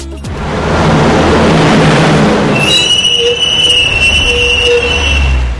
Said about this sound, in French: Puis les tramways se bondent pour conduire les habitants au lieu de leurs activités.